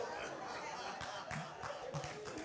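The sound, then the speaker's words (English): An audience claps steadily for a couple of seconds, a dense wash of overlapping hand claps with a few sharper bursts standing out, and some crowd murmur beneath. “You're clapping because my wife deserted me.”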